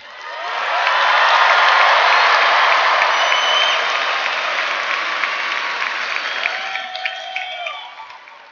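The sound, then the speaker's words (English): A large FFA audience bursts into sustained applause for FFA advisors (agriculture teachers), with scattered cheers and whistles, swelling quickly, holding loud for several seconds, then tapering gradually toward the end. “I want to hear it for our FFA advisors.”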